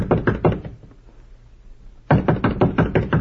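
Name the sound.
knocking on a door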